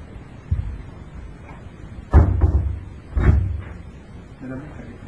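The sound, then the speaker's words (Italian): Two heavy door slams land about a second apart, each a loud, booming thud with a brief rumble after it, while faint voices murmur in the background. “Provo, chiudi dalla porta là, che così da sbattere.”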